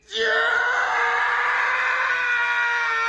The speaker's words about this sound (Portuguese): O rapaz entrou num súbito desespero que lhe faltava o ar. Deitou sobre o piso branco e limpo da cozinha e gritou mais alto que suas pregas vocais poderiam suportar.